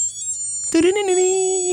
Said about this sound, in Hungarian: ha legalább 7 vagy 14 zenés kvarcórád volt